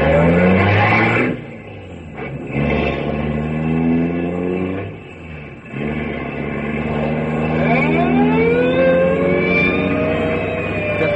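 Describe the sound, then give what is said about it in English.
A car engine starts and revs loudly, its droning pitch climbing and dropping in several bursts with brief lulls between, rising sharply near the end. “I've got to. Come on, car. Let's go.”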